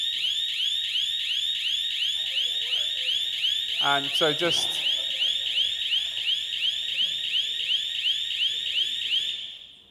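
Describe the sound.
A loud, shrill electronic alarm blares continuously with a fast warbling pulse for the whole stretch, briefly overlapped by a man speaking, then cuts off at the end.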